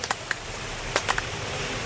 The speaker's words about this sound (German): Immer weiter geht es jetzt in den Wald hinein. Bald fällt vor der Gruppe ein kräftiger Wasserfall aus einer Bergfalte herab.